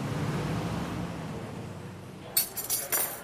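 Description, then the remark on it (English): A steady, diffuse murmur of background noise in a restaurant on Sunset in Hollywood at lunchtime, then about three bright clinks of glass in quick succession near the end, fairly sharp. “We're at the Waffle in Hollywood, right on Sunset, to talk about Hollywood.”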